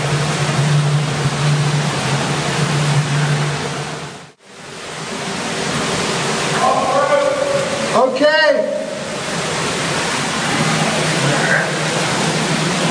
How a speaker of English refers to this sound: Boy, it's some interesting sounds from all the rushing water.